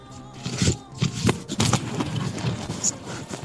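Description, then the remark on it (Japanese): Irregular rustling and scraping made by a participant, like fabric or paper being handled, with several brief louder crinkly bursts over about three seconds and no clear speech. “誰かがガサガサ言っていらっしゃる。”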